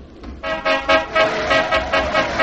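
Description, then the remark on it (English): Several car horns honk repeatedly in busy street traffic on the broad Copacabana Boulevard outside an apartment building, overlapping blasts pulsing roughly every half second, fairly loud, with no voices. “So I stood outside the apartment building, with the sleek cars streaking this way and that on the broad Copacabana Boulevard.”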